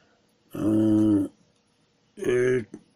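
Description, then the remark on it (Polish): A small cloned puppy gives two drawn-out, whining cries, each fairly loud and steady in pitch, separated by a short pause and ending with a brief extra squeak. “No więc ten piesek, malutki piesek w tej chwili.”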